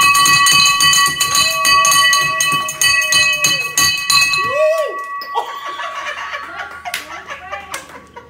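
A hand bell clangs rapidly and continuously, loud and bright for several seconds, rung by a patient at a treatment facility after her last radiation treatment for breast cancer; it breaks off abruptly as the bell breaks and people exclaim and laugh while a faint ring lingers.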